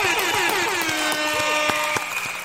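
A loud, buzzy birthday party horn toots continuously for a couple of seconds, its pitch wavering and dipping, with a few sharp claps or clicks scattered through it.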